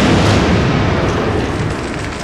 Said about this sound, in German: Es donnert, wie wenn gewaltige Felsmassen würden zusammenkrachen. Dann ist es still.